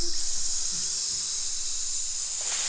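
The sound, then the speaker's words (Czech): A person produces one long, steady hiss lasting the whole clip, a sustained airy sound that grows slightly stronger near the end, trying to hiss for as long as possible. “Hele, kaktus, kde ho vidíš, takže syčíme.”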